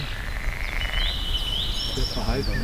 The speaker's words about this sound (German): Hört sich eher an wie ein quakender Einzelkämpfer. Aber wenn Sie einen warmen Abend haben, dann können Sie die auch die ganze Nacht durch auch hören, dann sind die aktiv. Doch heute ist es einfach zu kalt.